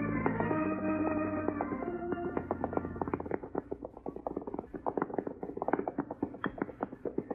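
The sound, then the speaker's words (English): Horses, among them a black horse, gallop in a race in a rapid, uneven, dense clatter of hooves, building after a short sustained tonal sound at the start. No one speaks. “it looks like they're running a race without train. Look at that black horse of Lightning.”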